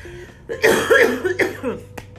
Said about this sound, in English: Oh Lord, that was a real cough, by the way.